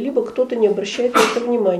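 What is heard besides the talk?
sneeze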